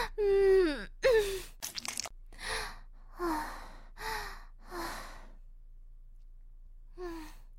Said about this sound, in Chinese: 是不是因为妹妹轻轻的喘息声又撩动哥哥了呢？热热的气息喷射在哥哥的耳边，有没有撩动哥哥的心呢？